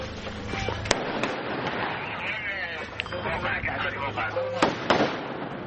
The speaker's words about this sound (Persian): تبادل آتش در داخل خانه. نظامیان از فیلمبردار رادیو فردا می‌خواهند مراقب باشد. تبادل آتش متوقف می شود.